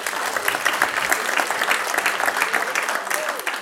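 An audience claps steadily throughout, a dense, even patter of many hands at a fairly loud, sustained level with no talking over it.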